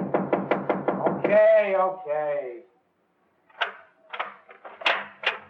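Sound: knocking on a door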